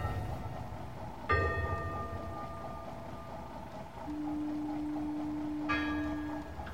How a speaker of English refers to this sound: There's a gong, too. Do you hear? That's good. When you're navigating through a fog like this, it's always a great comfort to know that you know where you are.